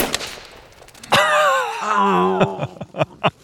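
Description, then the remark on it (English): A single sharp shot from a scoped rifle fired at a target cracks out, instantly followed by a loud, wavering vocal cry that trails into a few softer knocks and clicks. “And when you're ready to shoot, start breathing out real slowly. Squeeze the trigger and...”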